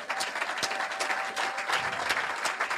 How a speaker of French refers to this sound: Alléluia. Non, ça, ce sont des acclamations timides.